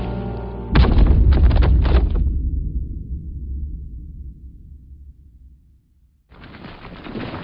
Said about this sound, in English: She heard the shriek and echo of B-5's blaster fire overhead, the rumble and crack of rock at last giving way, and the thunderous roar of the scout skiff's engines with Akia at the controls as the cavern ceiling collapsed upon them all.